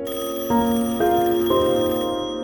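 A telephone rings with a bright, electronic warble, its tone shifting in steady half-second steps for about two seconds, clear with no voices; an incoming phone call received in October 1989.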